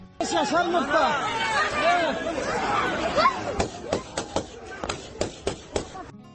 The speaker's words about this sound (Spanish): Gritos, disparos. Ese es el ambiente que se respiraba y me temo que se respira hoy en Afganistán.